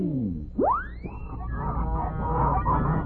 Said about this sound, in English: Well, since our story is the Goose Girl, how about a flock of giant wild geese flying north?